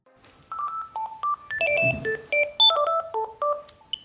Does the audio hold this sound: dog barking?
no